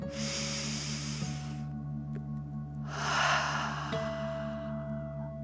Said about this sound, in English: Breathe in through your nose and then out through your mouth, pretending you are breathing fire. Deep breath in and out.